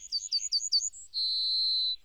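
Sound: yellowhammer singing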